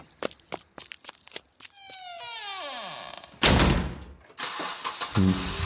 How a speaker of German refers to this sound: Und so Wegfahrgeräusch.